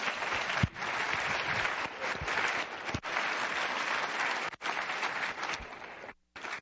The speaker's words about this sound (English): I want to mention that there is another Clinton here to applaud, and that's Chelsea here in the front seat.